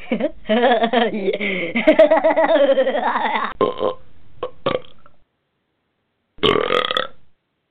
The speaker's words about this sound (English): I love that extra burp for some reason, I don't know,